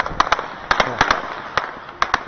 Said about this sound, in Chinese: 这可不是鞭炮啊，这些枪啊，鸟都飞了。 没有，那个是转载的一位叔叔，他在他们家的房顶，那里的位置就是在我刚刚说的大市场，就是，集中乱世的一个地方。